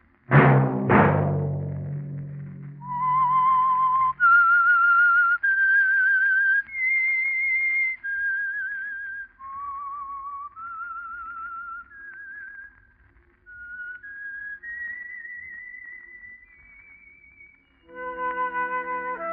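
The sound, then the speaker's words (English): Two sharp opening hits give way to a clear, lone whistled melody of slow, held notes that rise and fall, the theme of the Household Finance Corporation radio program The Whistler, ending on a sudden sustained musical chord. “Let that whistle be your invitation to listen to the Household Finance Corporation program, The Whistler, each week over these stations.”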